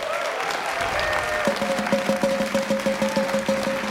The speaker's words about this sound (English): So if you would, join us in a round of applause for your friend and ours